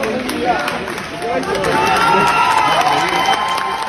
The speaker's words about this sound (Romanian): Întorși acasă, pe aeroportul Henri Coandă, tricolorii au fost primiți cu aplauze.